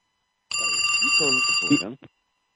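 A bright, bell-like telephone ring from an incoming call on a show's phone line sounds as one sustained burst of about a second and a half, with a person talking over it before it cuts off.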